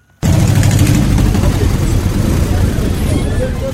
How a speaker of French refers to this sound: Nous sommes au terminus des arrêts de bus, non loin de la morgue de l'hôpital d'État, dans la commune de Kisienso.